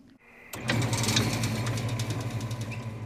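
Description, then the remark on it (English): A vehicle engine turns over and settles into a steady, throbbing rumble with a rhythmic knocking pulse as cars and trucks roll out of the opened gates of the West Elk coal mine in Colorado at 11 p.m. on a Friday night, at the end of a shift. No one speaks. “on a Friday night, the West Elk Mine opens its gates. Cars and trucks start rolling out.”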